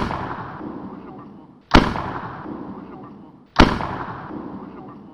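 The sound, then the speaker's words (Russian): A Christmas candle (Roman candle) firework fires two loud, sharp shots about two seconds apart, each bang trailing off in a crackling rumble over a steady, noisy background. “Начала стрелять рождественская свеча, словно палящая пушка.”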